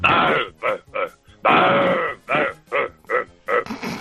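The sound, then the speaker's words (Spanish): A person's voice imitates a roe deer's bark with a string of harsh, gruff barks in an irregular rhythm, two of them longer and drawn out, the rest short and clipped, with no talking. “Y hay que estar en el campo pues para hacer el corzo, por ejemplo.”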